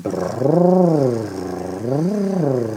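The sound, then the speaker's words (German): A voice imitates a motorboat with a buzzing "brrrr" lip trill, done as a voice exercise for the vocal cords, sliding up and down in pitch in two smooth swoops, steady and fairly loud, with no other talk. “Die erste Übung, die sie empfiehlt, ist wie ein Motorboot brrrr zu machen.”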